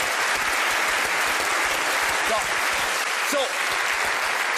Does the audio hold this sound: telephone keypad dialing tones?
no